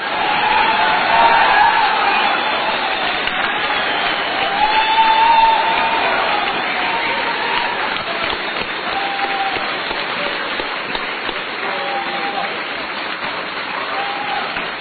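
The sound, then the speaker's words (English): A sustained round of audience applause, meant to be played to Kevin Mitnick over the phone: dense steady clapping from a sizable crowd with a few scattered whoops and cheers, loud and continuous throughout with no speech over it. “Before I begin, I will be playing this for Kevin over the phone sometime this week, and the first thing I would like for him to hear would be a good round of applause from everybody.”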